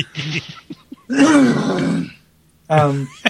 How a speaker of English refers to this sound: I gotta hack up some shit. Hold on. I was just like, you're joking. I literally have to do that. Hold on a second. You just cut me off from actually apologizing for the fact that I have to wetly cough.